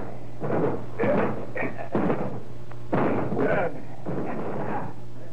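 A Scotland Yard detective and a sergeant break down a door: a series of about six heavy, loud crashing blows in quick irregular succession, with splintering bangs and no voices.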